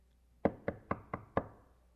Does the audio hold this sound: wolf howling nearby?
no